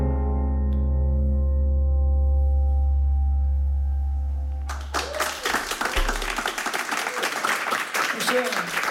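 A sustained final chord rings out and fades, then a crowd bursts into dense, steady applause with scattered cheers and whoops, filling the second half at close range.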